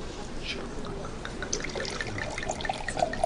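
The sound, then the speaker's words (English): Liquid pours steadily into a glass for a few seconds, a soft continuous trickle with faint rising ringing notes, against a low murmur of background voices. “Yes, you can pour.”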